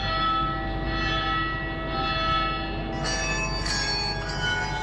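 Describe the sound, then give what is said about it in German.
Church bells of at least a dozen churches ring continuously and fairly loud on a Sunday morning in Trishur, Kerala, India, their sustained metallic tones overlapping in a dense, shimmering wash, with a brighter strike joining in partway through. No voices are heard. “Im Halbstundentakt läuten die Glocken von mindestens einem Dutzend Kirchen.”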